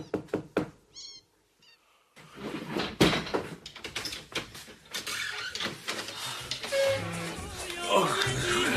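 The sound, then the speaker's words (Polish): A few quick, sharp knocks on a door come at the start, followed by a short cat meow, then busy background noise and people talking. “Pewnie mu coś wypadło. Pukaj.”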